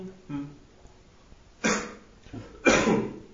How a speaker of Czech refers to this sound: No tam něco odkašlal.